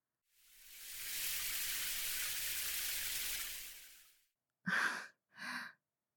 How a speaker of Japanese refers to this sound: とりあえず、シャワーで泡、流そうぜ。